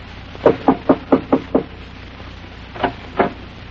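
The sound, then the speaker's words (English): Knocking on the door of a poor settlers' cabin with cloth over the windows, late one afternoon: a quick run of six firm raps, a short pause, then two slower knocks, clear with no voices. “I went up to the door and knocked.”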